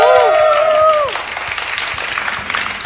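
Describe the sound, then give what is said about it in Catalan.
An audience at the live 100th programme of Nitrat in Sant Cugat lets out loud, drawn-out cheers and whoops for about a second, then keeps up a steady wash of clapping and applause to the end. “Crit boig!”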